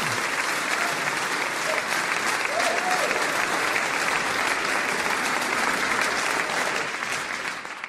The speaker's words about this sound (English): And I figured the fellow in the last message had so much clapping that I needed a little clapping myself. I figured you'd enjoy that.